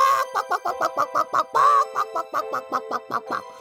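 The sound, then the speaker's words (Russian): A real chicken clucks in a quick, steady string of short, nasal bursts, with one drawn-out squawk partway through, loud with no talking. “Настоящая курица на настоящем радио.”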